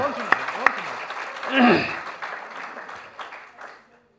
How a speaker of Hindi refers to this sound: बहुत बहुत धन्यवाद ताली बजाओ।